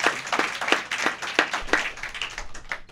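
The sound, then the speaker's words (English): Steady rhythmic hand clapping, a crisp clap roughly every third of a second, from a small group, loosening into softer, scattered claps toward the end; applause as a band's bass player is introduced. “And if you're out there, you can clap, even though we can't see you.”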